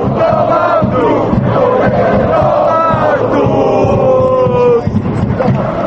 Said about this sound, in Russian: все это вызвало гнев болельщиков, которые теперь во время матчей скандируют речевки, содержание которых по отношению к главе кабинета министров не назовешь доброжелательным.